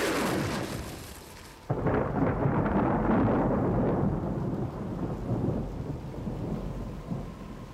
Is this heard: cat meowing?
no